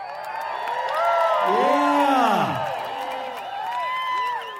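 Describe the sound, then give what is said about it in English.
A crowd cheers loudly for a band being introduced on the KVNF Tuesday morning music mix radio show, many voices whooping and shouting together in rising and falling cries, with scattered clapping underneath; the roar swells, dips briefly, then surges again. “So everybody, let's hear a big cheer so the listeners out there in radio land know you're here, okay?”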